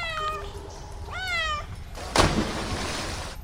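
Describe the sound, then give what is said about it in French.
A cat named Gala, belonging to Madame Vogt, meows twice in quick succession, clear, the second call longer and rising; a brief thump and soft rustling noise follow in the background. “Mais, et cette créature, c'est quoi ? Ah, ça ? C'est Gala, le chat de Madame Vogt.”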